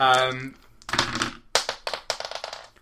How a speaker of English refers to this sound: Give me a roll of. Actually, all four dice. Yeah, I think I'm going to need them.